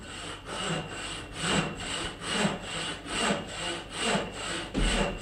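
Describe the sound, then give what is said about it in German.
Someone saws wood by hand with steady back-and-forth strokes, about ten rasping pulls in a regular rhythm, each a broad scratchy hiss rising and falling. No one speaks. “Ich vermute, jemand sägt. Richtig, zweiter Punkt.”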